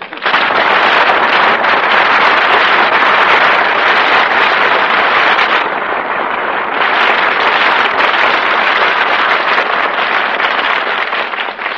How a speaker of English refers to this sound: It's the night of the big wind and no storm cellar.